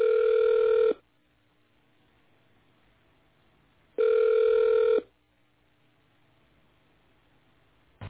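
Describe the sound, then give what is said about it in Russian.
A telephone ringback tone plays while the caller is on hold on the Dom.ru Business line, sounding in two steady one-second bursts spaced about three seconds apart, with faint line hiss in the silences between and no talking. “Оставайтесь, пожалуйста, на линии.”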